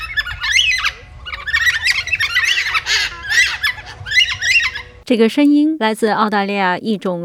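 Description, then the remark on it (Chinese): A flock of Carnaby's black cockatoos, an Australian species, gives loud, harsh, wailing calls in rapid repeated bursts over a low rumble, then a person starts talking over the end. “这个声音来自澳大利亚一种特殊的黑鹦鹉，叫做 Cannabis Black Cockatoo。”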